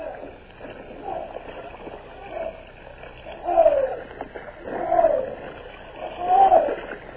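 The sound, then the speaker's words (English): Oars splash in a slow, steady rowing rhythm as crews row barges on a river against the current, each stroke about a second and a half apart, with drawn-out creaking tones from the oarlocks, moderately loud. “Turn the tide, oars! Port side, pull harder!”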